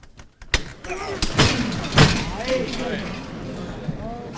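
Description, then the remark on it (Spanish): Two sharp metallic knocks ring out about half a second apart during a Holy Week procession: one from the silver knocker (llamador) of the San Gonzalo float (paso), the other from the canopy poles (varales). A steady murmur of voices and background noise continues. “Dos martillazos. Uno el del llamador de plata, otro el de los varales.”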